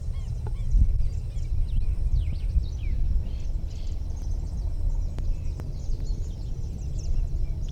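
A bird gives scratchy, rattling alarm calls, repeating irregularly over a steady low rumble of wind or background noise, with other faint bird notes mixed in.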